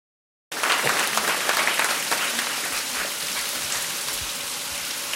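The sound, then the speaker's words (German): After a brief silence, rushing water at the hydroelectric power plant in Güstrow bursts in as a loud, steady, hissing roar that continues unbroken to the end, with no voices. “Was Sie da gerade hören, da haben wir nichts simuliert, auch kein Sendeausfall oder sowas in der Art, sondern das ist das Wasserkraftwerk hier in Güstrow.”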